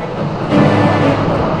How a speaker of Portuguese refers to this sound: Os enormes pedaços de gelo continuam a despencar. A queda forma ondas. Toda a estrutura do paredão ficou comprometida.